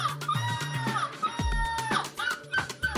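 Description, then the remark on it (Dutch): A Belgian woman who took bronze at the European seagull-screeching championship imitates a screeching seagull with a run of shrill, wavering cries that rise and fall, fairly loud, over a steady background of music. “En een Belgische haalde brons op het EK meeuwenschreeuwen.”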